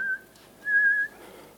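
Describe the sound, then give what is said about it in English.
A father whistles two steady, held notes at one pitch, a short one then a longer one, with a slightly breathy, rasping edge. Faint background hiss, no talking. “it's my dad whistling”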